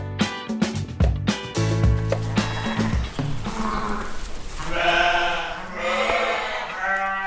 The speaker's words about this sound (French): Donc là, on est dans la bergerie, qui était une ancienne stabulation de vaches laitières, qui a été réaménagée en bergerie. Donc là, c'est la période des naissances pour les jeunes, les agnelles.